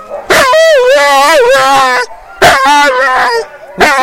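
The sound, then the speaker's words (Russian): A sled dog lets out long, wavering whines and howls in three eager bursts, rising and falling in pitch with short pauses between them, as it waits hoping to be taken into the harness team. “Так страдает собака, которая думает, что ее возьмут в упряжку.”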